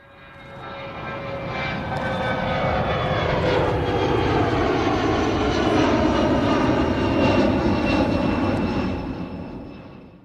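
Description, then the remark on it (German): A plane's engine drones steadily and loudly, swelling in as the aircraft approaches, holding a broad roar with a whining tone, then fading slightly as it passes. No one speaks. “Okay, das war nicht der Privatflieger von Friedrich Merz und auch nicht der Jet von Franz Josef Strauß, den du ja schon erwähnt hast, aber sowas Ähnliches, oder Matthias?”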